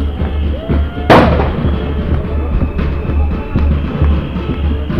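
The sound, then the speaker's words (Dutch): A single loud cannon blast in a video game booms out about a second in, its sharp crack trailing into rumble over a steady low mechanical drone and scattered battle noise. “Afgevuurd, maar die komt er niet echt helemaal.”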